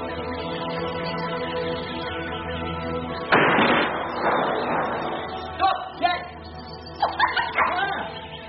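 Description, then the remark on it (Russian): A dog out hunting for game in a forest barks in two short bursts of a few sharp barks, moderately loud, following a single loud bang, with a steady low hum running underneath throughout. “Глупый пёс, не нашел птиц.”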